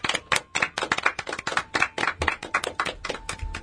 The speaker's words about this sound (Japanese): 拍手。 イエイ。